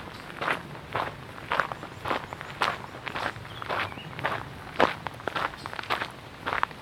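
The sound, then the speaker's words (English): Steady footsteps crunch over gravel as someone walks toward a river, roughly a dozen regular steps in a walking rhythm with no voices, each one a short gritty scrape. “Oh, is that loud, eh? That gravel?”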